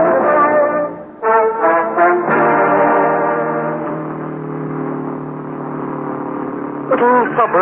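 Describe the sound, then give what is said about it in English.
A voice imitates a car engine in road traffic in wet weather, a steady droning hum that rises and wobbles in pitch with revving bursts at the start and end, loud throughout. “Plenty of traffic on the road.”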